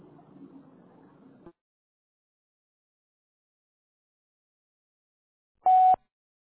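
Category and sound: signal or alarm, voicemail beep tone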